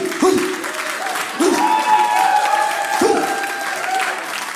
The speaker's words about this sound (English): Don't clap too hard.